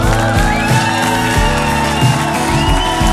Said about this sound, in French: Pourquoi ils firent tenir ici lorsque vous applaudissez très très fort jusqu'à faire vibrer les murs du studio de la maison RTL? Tout le monde.